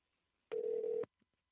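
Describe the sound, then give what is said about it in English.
A single steady telephone ringing tone sounds for about half a second, clear and even in pitch, then cuts off abruptly, leaving near silence with no one talking. “Oh no, what if they don't answer?”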